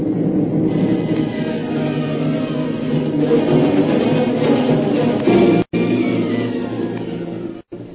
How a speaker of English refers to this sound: That's more than a storm blowing up, maybe. It looks like a typhoon.